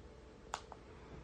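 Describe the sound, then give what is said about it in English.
A single keyboard down arrow key press while navigating between internet radio stations, a sharp click followed moments later by a softer release tap, against a quiet background hiss with no talking. “So I'm just pressing down arrow.”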